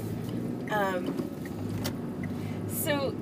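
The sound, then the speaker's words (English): Steady low rumble of a car driving along a road and approaching a turn, heard from inside the cabin, with a couple of brief bursts of a voice speaking over the constant road noise. “Let me just get up to this turn. Make sure I don't go into oncoming traffic.”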